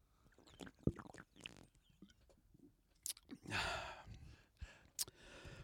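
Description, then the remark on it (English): Someone takes a swig of a low-bitterness, mango-flavoured lager beer: a few small wet clicks and gulps, followed by a loud, breathy exhale of satisfaction and a couple more faint swallows. “Let me have a swig of this, shall I?”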